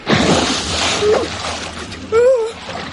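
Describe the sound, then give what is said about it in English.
A loud splash as a small animal jumps into a full bath of hot, soapy water, followed by sloshing and churning, then a short voiced cry near the end. It sounds fairly loud. “He climbed up onto the side of the bath, closed his eyes, held his nose with one paw, and jumped.”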